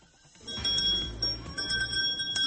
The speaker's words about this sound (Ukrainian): Останній дзвоник пролунав і для 32 учнів спеціалізованої школи номер 40 з поглибленим вивченням німецької мови Святошинського району Києва.